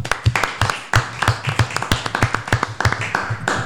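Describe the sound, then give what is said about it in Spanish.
A short burst of applause: many hands clapping in a quick, uneven patter of sharp claps, fairly loud and steady for a few seconds with no clear talking. “Bueno, pues un aplauso para todas, ¿no?”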